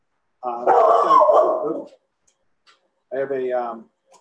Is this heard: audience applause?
no